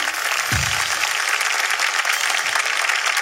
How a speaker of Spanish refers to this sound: Un fuerte aplauso para ella que llega hasta el cielo.